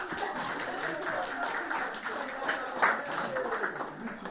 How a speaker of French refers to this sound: Et là aussi, c'est bon, bravo, applaudissez-vous, bravo. Bravo.